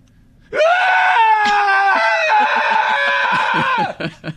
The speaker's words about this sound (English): No, girly, be screaming like a girl. Then I'll have to scream.